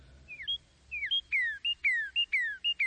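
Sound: birds chirping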